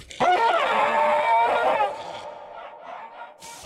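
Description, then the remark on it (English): A German Shepherd dog lets out one long, loud, strained whining cry lasting over a second, followed by fainter scattered noises and a sudden short burst at the very end. “Yeah, that's a German Shepherd, and I want to say a Volvo S70.”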